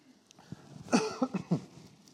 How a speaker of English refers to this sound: Along with all the other stuff going on, I don't hardly ever get a cough, but I've had a cough for the last 3 or 4 days, and it is annoying the heck out of me.